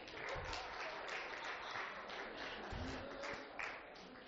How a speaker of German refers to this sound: Mit einem Applaus.